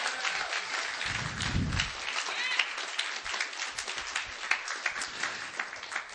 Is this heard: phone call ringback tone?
no